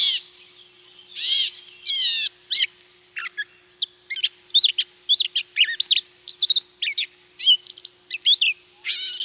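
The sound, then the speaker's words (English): A gray catbird sings, a rapid, jumbled run of squeaky, whistled and scratchy phrases with cat-like mewing notes mixed in, broken by short pauses and with no voices. “A catbird won't say its name, but it does sound a lot like a cat.”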